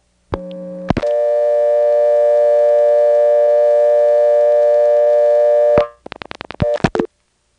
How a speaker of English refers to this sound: it uses the NX1 to get to Goldston and Bon Lee, but unlike from here, you actually can hear the outpulsing, and it's really kind of cool because when you dial the 8 to go to Bon Lee and Goldston, it's almost as if the NX1 is giving you a dial tone.